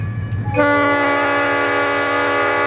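A train rumbles by, then its horn blasts loud and steady, a sustained multi-tone blare that holds to the end over the low rolling noise of the cars.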